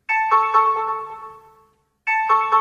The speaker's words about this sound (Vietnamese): Chuông cửa reo, rồi nhân viên khách sạn dẫn … vào.